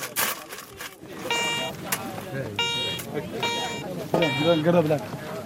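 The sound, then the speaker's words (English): A metal detector beeps three times in steady electronic tones, spaced about a second apart, over outdoor background noise and faint voices, as men dig for gold in the sand of a barren desert. “The beep from the metal detector could be the first sign their luck is about to change.”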